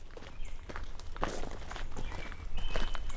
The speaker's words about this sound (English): Yeah, so that bird we're hearing, that's a robin.